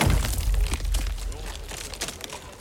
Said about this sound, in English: After inserting iron wedges into the hollows, he begins to hammer them into the boulder. Another man joins him, and soon there's an immense cracking noise as the rock splits.